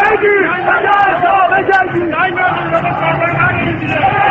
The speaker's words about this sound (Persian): جمعیت عصبانی شعارهای تند می‌دهند.